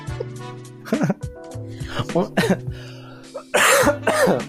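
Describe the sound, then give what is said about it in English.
Someone with the flu coughs and clears their throat several times in quick, rough bursts, with a harsh louder cough near the end and a low tonal hum running underneath. “Oh no, the flu is coming back. Talk to me. I know, it's kicking it in. I didn't bring a cough drop.”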